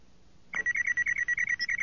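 A comlink in Han Solo's shirt pocket beeps: after a brief hush, a high-pitched electronic trill starts abruptly and keeps pulsing in rapid, even bursts, fairly loud, with no voices.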